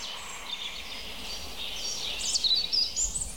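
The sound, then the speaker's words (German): A European robin sings softly, its thin, high warbling phrases arriving in short broken bursts over a steady outdoor hiss, growing a little more active toward the end. “Oh, das Rotkehlchen.”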